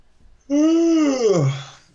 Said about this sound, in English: That actually was a real yawn, but it was just perfect timing. So instead of hiding it, I just let it roll out.